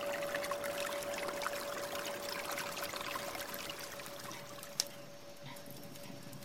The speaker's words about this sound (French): moi, il me faut la rivière, le bruit de l'eau et le silence des pierres.